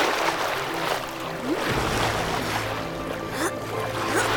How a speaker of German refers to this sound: Das Unterwassereinhornfohlen schlug kräftig mit seinem breiten Schwanz. Und im Nu glitten sie durch das schimmernde Wasser von Mia Mare.